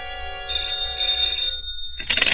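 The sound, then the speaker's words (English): A telephone rings at 8 o'clock with a sustained, bright metallic trill that stops briefly, then a second ring bursts in loudly. Nobody speaks over it. “At 8, my phone rang.”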